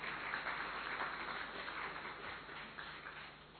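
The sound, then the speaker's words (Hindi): An audience claps steadily for several seconds, a dense, even patter of many hands with no voices over it, easing slightly toward the end. “ताली बजाओ ना अच्छी तरह से जरा।”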